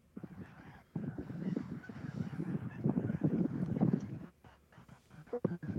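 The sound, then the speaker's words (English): A big flock of geese flies right overhead, honking in a dense, continuous chorus of overlapping calls that swells and fades, with a few scattered louder honks near the end. “Sounds like a lot of geese.”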